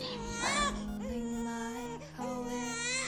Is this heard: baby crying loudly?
yes